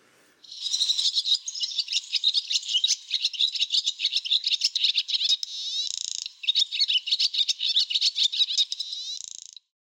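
A huge roosting flock of up to 1.5 million barn swallows, gathered together in elephant grass in southeastern Nigeria, fills the air with a dense, high-pitched wall of twittering and chirps, loud and unbroken for nearly ten seconds apart from one brief dip.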